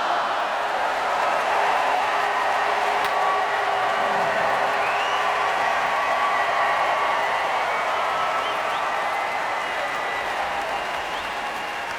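A large outdoor crowd in Hyde Park cheers and applauds continuously, a dense, steady roar of clapping and shouts that stays loud throughout and fades only slightly at the end.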